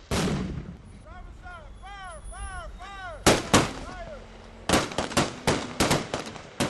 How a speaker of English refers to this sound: Their convoy then pulls up to a road where junked cars are up on their sides. Barrels and tires lie around on the ground. Here, they experience their very first improvised explosive device.